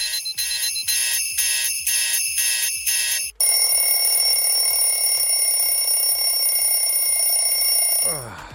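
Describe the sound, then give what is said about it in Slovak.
An alarm clock rings loudly with rapid, pulsing electronic beeps in regular bursts, then shifts to a steady, continuous shrill tone before cutting off near the end. “A zvuk budíka, prečo vlastne takto znie aktuálne?”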